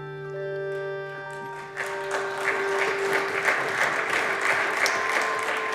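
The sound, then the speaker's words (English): A bipartisan round of applause on the Senate floor, dense overlapping clapping that swells after a sustained tonal hum fades, continuing steadily and fairly loud to the end. “Mitt Romney earned himself a bipartisan round of applause on the Senate floor”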